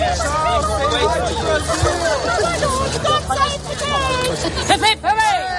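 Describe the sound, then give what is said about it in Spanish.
A street crowd chatters and calls out in a steady, loud hubbub, with raised voices and excited shouts over a low engine-like rumble, as King Charles III arrives by car in the early afternoon with Prince William and Catherine and gets out to greet Britons who have kept places along the street for days. “Es el sonido de primera hora de esta tarde, cuando Carlos ha llegado en coche acompañado por su hijo, el príncipe Guillermo, y su mujer, Catalina, y se han bajado a saludar a algunos de los británicos que llevan días guardando sitio en la calle.”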